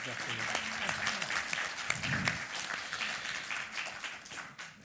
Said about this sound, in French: Donc ça voulait dire qu'il faut l'applaudir. Hein, voilà.